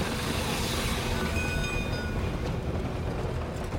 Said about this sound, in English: The bell jangled and the siren whistled and the train pulled out of the station and was gone.